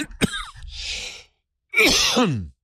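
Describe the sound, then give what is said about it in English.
Two loud coughing fits separated by a short pause during a live broadcast. The first is sharp and raspy, the second a harsher, longer hacking burst. No one speaks. “See, now that you're watching live, you're going to see all the coughing and the hemming and the hawing.”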